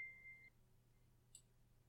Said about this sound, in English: Why is your phone going off during our quiet time? Why?